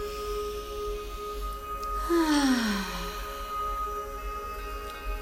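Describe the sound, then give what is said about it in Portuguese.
A single slow, deep breath drawn in and let out during a guided breathing exercise, soft, over a steady low hum and faint sustained background tones, with no talking. “Uma respiração profunda.”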